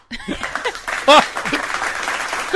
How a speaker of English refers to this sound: Yeah, slow clap. I think it deserves a slow one. Not... Oh, sorry, that was too fast.